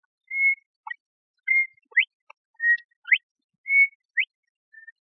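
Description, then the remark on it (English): A person whistles an imitation of a bobwhite's call, repeating it four times: a short steady note followed by a sharp, rising upslurred whistle, clear and high-pitched with short pauses between. “Bird song, the Bob White.”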